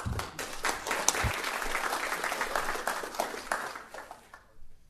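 An audience applauds with a dense, steady patter of many hands clapping, holding at a fairly even level for about four seconds before thinning out and stopping.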